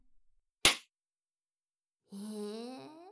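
A single sharp, open-handed slap across the face cracks out against a quiet background, followed after a brief silence by a drawn-out, rising vocal cry.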